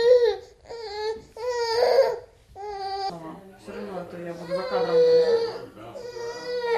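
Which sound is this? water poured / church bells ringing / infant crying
infant crying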